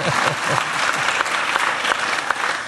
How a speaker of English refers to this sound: And you can give me a round of applause for doing what Lionel Messi could not do. Thank you very much.